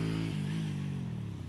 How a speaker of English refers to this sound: Guy with L plates on his motorbike. And you get that quite often. You get a lot of learner drivers coming on here, cars and articulated wagons.